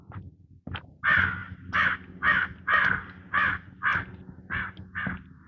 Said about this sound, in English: I wonder if I'm going to see more crows now.